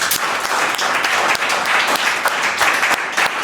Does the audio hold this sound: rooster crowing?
no